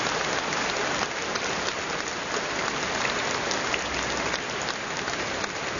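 A crowd applauds a nun and the presenting group after a word-and-music program for young people about Pope John Paul II. Many hands clap at once in a dense, even patter that holds at the same fairly loud level for the whole stretch, with no voices.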